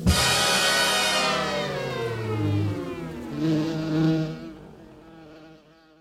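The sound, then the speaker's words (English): Loud buzzing of bees with a droning, wavering pitch that dips and rises as they move, fading away over the last second or so. No voices. “When we talk about bees, usually we mean honeybees or maybe bumblebees.”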